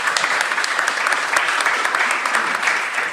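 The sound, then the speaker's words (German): A burst of steady applause from a group, dense overlapping claps sustained at even loudness for a few seconds with no voices standing out. “Ja, das ist ja wohl ein Applaus wert an der Stelle.”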